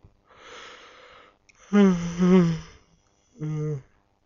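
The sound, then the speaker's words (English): A person yawns: a long breathy inhale, then a drawn-out voiced groan that rises and falls, trailing into a shorter sighing hum. “Oh, shit, I can't stop yawning.”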